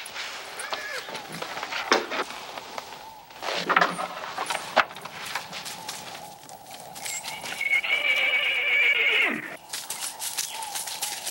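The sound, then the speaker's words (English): A horse lets out a long, shrill whinny near the end, preceded by scattered hoofbeats clip-clopping on hard ground, with other bustling sounds in the background. “Where the horses are.”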